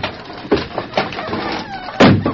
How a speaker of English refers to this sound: The great horse Silver drew back as the door crashed down before the onslaught of his powerful hoofs.